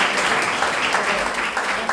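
A crowd at a primary-school drawing contest award ceremony claps for a first-prize winner, a dense, continuous patter of many hands, sustained at an even loudness throughout with no voices standing out.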